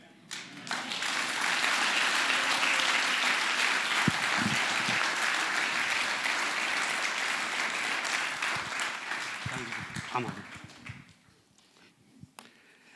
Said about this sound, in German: Lass uns nochmal für alle fünf einen ganz kräftigen Applaus.